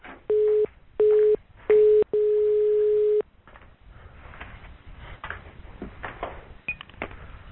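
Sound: telephone ringing tones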